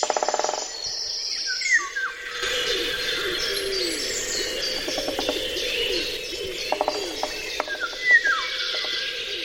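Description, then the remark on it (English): A dense woodland bird chorus with a cuckoo, golden orioles and a great spotted woodpecker: overlapping whistles and chirps, plus short bursts of rapid knocking, with an insect-like hum underneath. “For instance, the soundscape of the cuckoo, the golden orioles, and the great spotted woodpecker.”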